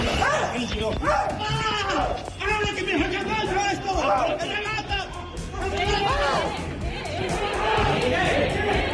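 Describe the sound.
An antifascist protest at the doors of the town hall in Santpedor, Catalonia, clashing with police during the swearing-in of an Aliança Catalana councillor: a loud, agitated crowd shouts and yells over one another, several raised voices rising and falling in overlapping bursts amid a constant roar of commotion.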